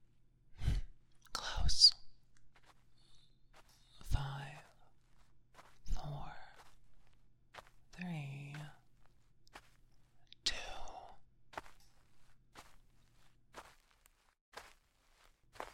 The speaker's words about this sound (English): Footsteps coming this way.